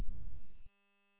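A brief burst of radio static stops abruptly, followed by a short, steady, buzzy repeater courtesy beep, faint and with no voices.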